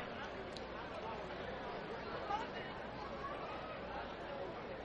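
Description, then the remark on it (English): A steady wash of crowd chatter from a near sellout crowd at a baseball game at Atrium Health Ballpark, many overlapping voices blending into a continuous murmur with no single speaker standing out, holding even in loudness throughout. “Ballpark is packed tonight. A near sellout crowd here at Atrium Health Ballpark.”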